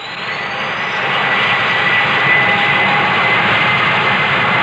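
aircraft engines starting up

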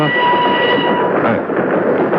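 train running on rails

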